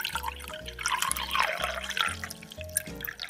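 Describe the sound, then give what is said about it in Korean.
A coffee machine brews a warm coffee into a cup: a low pump hums in steady pulses, roughly twice a second, beneath a continuous hiss and trickle of liquid pouring. No one speaks. “커피머신으로 따뜻한 커피 한 잔을 내려서 마십니다.”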